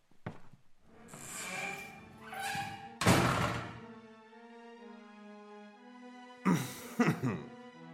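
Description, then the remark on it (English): A door is swung shut by a servant leaving at the king's request, a heavy thunk, followed moments later by a couple more solid knocks, while sustained tonal music hums underneath. “Please, close the door behind you and allow me a few moments with my beloved wife.”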